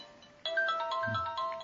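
A phone ringtone suddenly starts playing during a lecture, a bright electronic melody of sustained, shifting tones that rings steadily and fairly loudly with no one talking over it.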